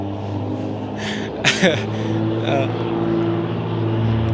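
A loud truck hauling another truck rumbles past with a steady, heavy low engine drone and a humming whine on top, broken by a few brief hissy bursts early on.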